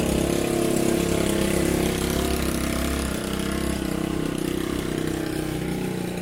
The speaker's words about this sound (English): That was a gigantic motorcycle full of sugar.